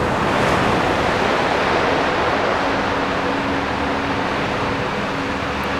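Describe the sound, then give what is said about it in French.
Waves crash and slap continuously in a loud, dense wash of surf, steady with no pauses, and no voices over the roar. “Le claquement des vagues.”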